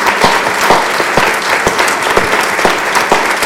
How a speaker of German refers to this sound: Und einen ganz großen Applaus an Frau Funk und ihrem Team von der Buchmesse. Sie steht da hinten am Tisch.